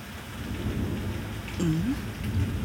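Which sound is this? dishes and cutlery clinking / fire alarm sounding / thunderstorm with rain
thunderstorm with rain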